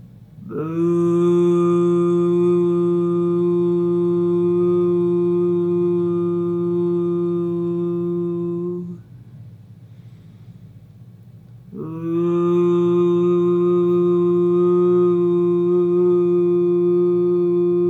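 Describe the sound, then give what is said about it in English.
A voice sustains a deep, steady "voo" hum from deep in the gut, imitating a foghorn as part of a foghorn-breath exercise: two long buzzy tones of about eight seconds each, loud and rich, separated by a brief quiet pause for breath. “So take an easy breath in, and then as you release it, make the sound VOO from deep in your gut, from the viscera, as he calls it.”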